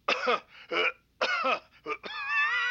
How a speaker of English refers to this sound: are you being held hostage or something? I mean, cough twice if you are. Like this.